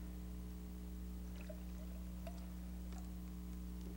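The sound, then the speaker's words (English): Tea pours faintly into a glass with a few soft splashy trickles, nearly buried under a steady low electrical hum; no one speaks. “I'm pouring here.”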